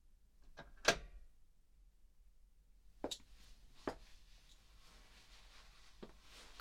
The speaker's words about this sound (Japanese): あ、鍵閉めちゃいますね。